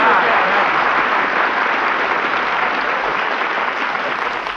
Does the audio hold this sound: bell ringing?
no